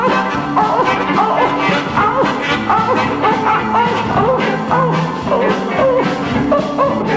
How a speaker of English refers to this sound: You know that hound is singing a song, boy.